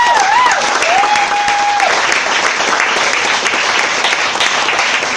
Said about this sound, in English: Also, again, give a round of applause to all those comics that came out to donate their time.